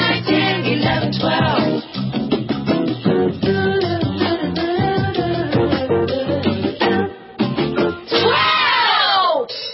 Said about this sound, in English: I love when they scream, wow, in the background.